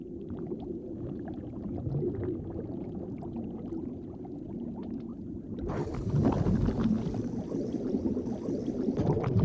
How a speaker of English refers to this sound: Around them, a dozen divers exhale bubble jets.